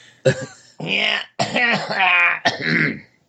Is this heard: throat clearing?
yes